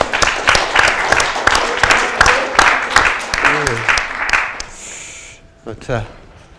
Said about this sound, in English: Before we do anything else, I think it would be good to particularly give a round of applause to those who've catered so adequately for us today.